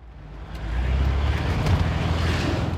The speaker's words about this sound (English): What are we driving? What are we in? We're in a 1989 VW Vanagon, Westphalia edition. And how long you had this van now? I've had this van for about 6 months, 7 months,